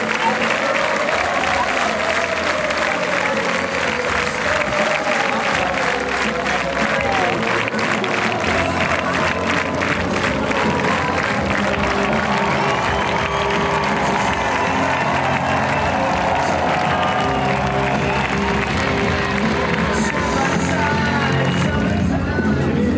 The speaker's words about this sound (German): Und das Green Juice-Publikum singt und klatscht nach dem Gig des gefeierten Headliners einfach noch was weiter.